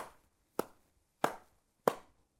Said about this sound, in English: The beat is a pattern of pulses. Our simplest example is our heartbeat, or a steady clap as we count. 1, 2, 3, 4.